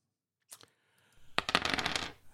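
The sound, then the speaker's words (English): Four eight-sided dice are rolled: a small click, then a busy burst of rattling and clattering as they tumble across a hard surface for about a second. No one speaks. “Well, then I'm going to use 2 time to shine dice. Okay. To make it 4d8.”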